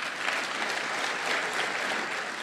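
Steady applause from many hands, a dense, even wash of clapping that holds at a constant moderate loudness for a couple of seconds with no voices over it.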